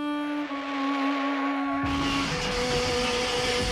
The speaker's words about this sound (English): As seen in the scene, these two underage drinkers got into a could-be fatal car crash.